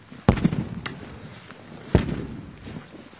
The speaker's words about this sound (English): At the top of Aspen Highlands, ski patrollers toss palm-sized orange canisters over a ridge into steep, snowy terrain. 3, 2, 1. They're explosives, and they're meant to trigger avalanches.